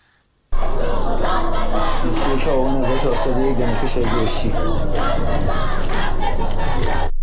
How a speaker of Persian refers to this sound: در دانشگاه بهشتی گروهی از دانشجویان شعار دانشجو داد بزن، حق تو فریاد بزن سر دادند.